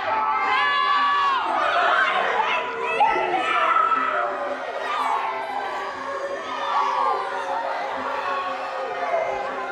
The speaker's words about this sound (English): The crowd was loud for other matches, but when Dan walked out, it was next level.